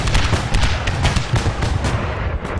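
A loud, rumbling barrage of cannon fire, with booming blasts following one another in quick succession over a continuous low roar, and no voices.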